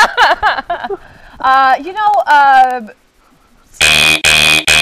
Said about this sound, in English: Beep, beep, beep, beep.